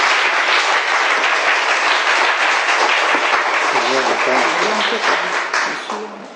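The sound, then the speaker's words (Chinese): An audience at a Chinese-language church service applauds loudly to welcome the pastor who is coming up to preach, with dense, steady clapping for several seconds, while a voice speaks briefly beneath it before the applause tapers off at the end. “我们将掌声和会的声欢迎神的仆人。”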